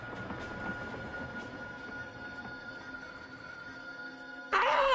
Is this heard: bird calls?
no